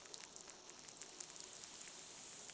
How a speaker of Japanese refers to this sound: 猫名館またたびの湯の炭酸シャンプーにて、頭を洗ってまいります。では、少し髪にまたたびの湯をなじませてから、少しパチパチ、シュワシュワする音が聞こえますでしょうか。